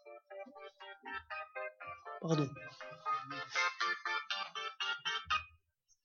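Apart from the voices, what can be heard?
mobile phone ringtone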